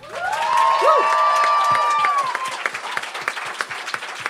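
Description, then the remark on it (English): A live show audience bursts into loud applause for the evening's guest, with high whoops and cheers over it, then the clapping thins out into scattered individual claps that fade away. “Give us a huge round of applause for our guest tonight”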